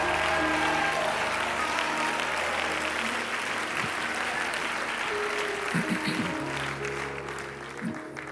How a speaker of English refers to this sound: Clap your hands, all ye people, and shout unto the Lord with a voice of triumph.